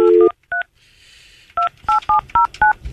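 Touch-tone phone dialing: a short opening tone, a pause with faint hiss, then a quick run of about six or seven clear keypad beeps, close and fairly loud, with no talking.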